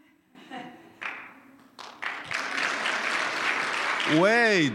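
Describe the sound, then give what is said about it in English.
A church audience starts clapping in scattered bursts that quickly swell into steady, dense applause to give God the glory, with a voice calling out over it near the end. “I'll tell you how we clap to the Lord.”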